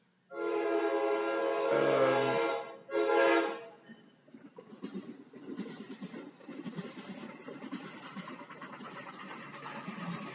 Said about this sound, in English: Baruch Hashem, we got a short train. Sometimes the trains are significantly longer.